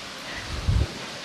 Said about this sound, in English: Here we are, the source of the water, and there it is. Mini waterfall. That's wonderful, isn't it?